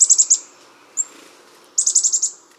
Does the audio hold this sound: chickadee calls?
yes